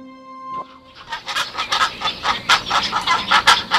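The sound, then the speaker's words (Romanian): Dalmatian pelicans calling in a colony on Lake Tașaul in Năvodari: a steady run of harsh, raspy squawks repeating in quick succession, fairly loud, after a short tonal note at the start. “În lumea Europa FM, Raul Bambu a vizitat colonia de pelicani creți de pe lacul Tașaul din Năvodari.”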